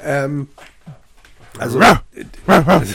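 A dog sitting on a person's lap lets out a short, high whine, then after a pause gives two loud barks roughly half a second apart.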